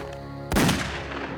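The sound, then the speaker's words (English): A single loud gunshot, fired by officer Ibrahim Abisalov and striking Sidney in the back beside a stopped car, cracks sharply out of a low, steady hum, then rings and decays slowly over the next second. “Abisalov fired a single shot that struck Sidney in the back.”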